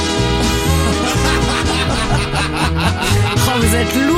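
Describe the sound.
A voice mimics a Spanish police siren, producing loud, continuous wavering tones that rise and fall for several seconds without a break.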